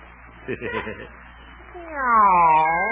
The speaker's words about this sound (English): That wasn't me. Go away, cat. You got me mixed up with somebody else. Go on, beat it.